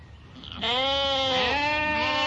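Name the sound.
goats bleating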